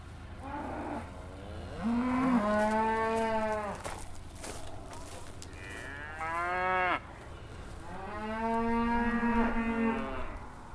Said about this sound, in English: You got a lot of cows. Yes, we do. Here they are. I heard them go moo. Yeah. Why do they say moo?